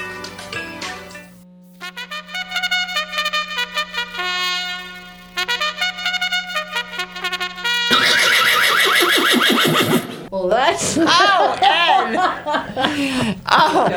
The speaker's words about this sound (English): I don't believe you put that horse sound in there.